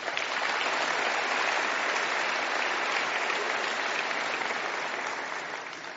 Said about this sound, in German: Allen voran steht die Meinka-Gruppe mit über 1.250 Mitarbeitenden klar an der Spitze, die unter anderem aktuell den Auftrag für den Bau der großen Konverterstation im Industriepark erhalten hat. Da darf man gerne klatschen.